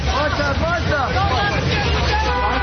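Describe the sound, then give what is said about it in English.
A dense crowd of reporters shouting questions over one another outdoors at Martha Stewart as she leaves a federal courthouse in Manhattan for a waiting car, loud and chaotic, with several raised voices overlapping and a steady low rumble of traffic or wind underneath. “The domestic diva declined to respond to questions yelled to her by reporters as she hustled off to a waiting car.”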